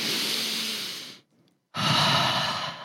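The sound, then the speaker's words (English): A long, deep diaphragmatic breath drawn in with the stomach expanding out, a brief pause, then a full, airy exhale with the stomach drawn in, fairly loud, with no talking. “Instead, you're breathing in, a stomach expands out. When you breathe out, your stomach comes in and you suck it in.”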